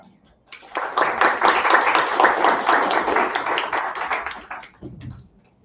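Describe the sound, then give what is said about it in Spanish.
An audience bursts into applause for the panel guests at the start of a session, a dense, steady clatter of many hands clapping for about four seconds before fading out, with a brief low murmur at the end. “Esta es un poquito de la descripción que les puedo dar de ellos, porque si no nos quedaría un cachito del día, pero quiero que les demos un fuerte aplauso a ellos para empezar.”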